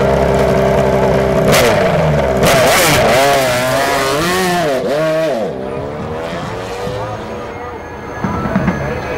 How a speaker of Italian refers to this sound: In pratica, nei weekend di gara, prima della partenza ufficiale, porta ricconi, VIP e addetti ai lavori a fare un paio di giri in pista su una Ducati Desmo 16 modificata a due posti.